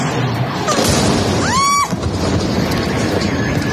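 Heavy, continuous booming rumble of explosions in central Caracas, Venezuela, around 2 a.m. local time during attacks on military installations, loud throughout, with a brief rising whistle cutting through midway.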